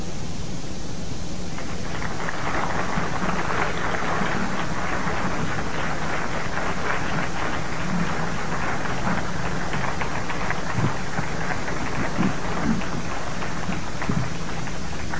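Audience applause for a speaker being introduced on stage: a dense, steady wash of many hands clapping, building in within the first couple of seconds and continuing at an even, fairly loud level to the end, with no voices.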